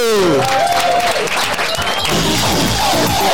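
A crowd applauds AT5 steadily for a few seconds, dense clapping mixed with some cheering and a few voices calling out, loud throughout.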